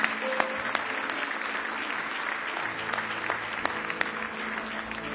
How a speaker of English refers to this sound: Somebody say praise the Lord. Give him one more hand clap of praise tonight.